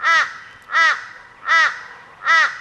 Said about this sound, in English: Yes, it's the shortest and the most clipped. It's the Teresian crow